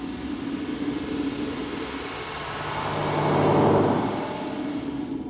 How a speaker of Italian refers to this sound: L'ultimo autobus di questo viaggio mi porta da Macao a Hong Kong attraverso questo ponte di 40 km appena costruito sul mare.